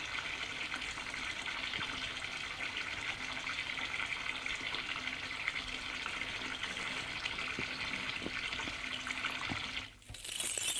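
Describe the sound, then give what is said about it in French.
Shower water runs in a steady, dense hiss with faint splashes and patters, briefly dipping near the end before resuming, as someone showers in an apartment to wash off blood. No voices. “Puis retourne à l'appartement, enlever le sang, prendre une douche.”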